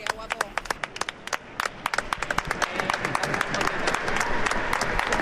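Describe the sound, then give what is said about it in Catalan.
A crowd of hundreds of people breaks into applause at the Festa de la Llum at 8:30 in the morning, as the dawn sun shines through a rose window onto the opposite facade; scattered sharp claps at first quickly thicken into a steady, loud wash of clapping, with cheering voices mixed in. “Aplaudiments i molta emoció.”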